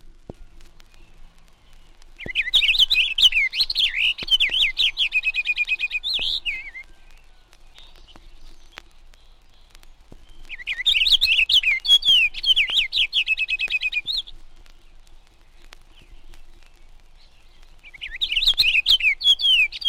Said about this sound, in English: Purple finch ranges south with the evergreens, but it is more common in the north woods, its song a continuous warble.